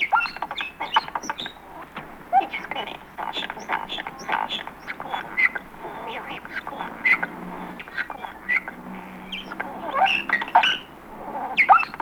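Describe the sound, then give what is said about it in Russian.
A common starling named Sasha, one of the caged mimicking birds at an ornithologist's, chatters continuously: a busy jumble of whistles, clicks, squeaks and quacking, duck-like calls, varied and rapid mimicry, with no one speaking. “Пересмешниками их называют, потому что они могут запомнить и повторить те слова и звуки, которые слышат вокруг себя.”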